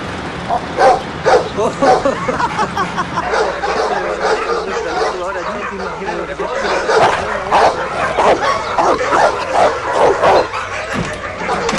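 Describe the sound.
A dog barks repeatedly in loud bursts, mixed with yips and some whimpering, while people talk and chatter underneath throughout.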